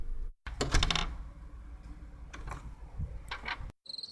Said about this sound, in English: Hold on, let me lock this door real quick, man.